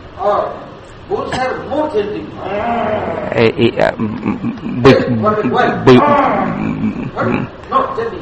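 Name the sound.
cows and calves mooing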